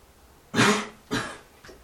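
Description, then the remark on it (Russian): Two harsh coughs about half a second apart, the first strongest, then a brief fainter throat-clearing rasp. No talking is heard. “Но у меня уши тоже кашляют.”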